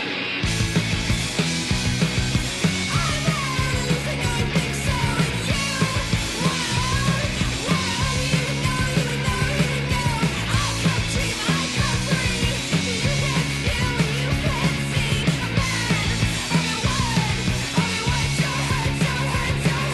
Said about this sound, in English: which kicks off with a lot of attractive guitar noise and yelling